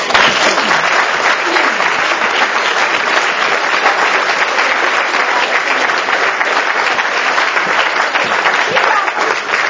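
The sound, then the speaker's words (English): A crowd claps loudly and steadily for about ten seconds, a dense, even wash of many hands with no pauses, and a few faint voices mixed in underneath, welcoming a guest speaker who traveled down to visit. “And she has a bum knee, so we have to clap extra loud and be super grateful that she traveled down here to visit with us.”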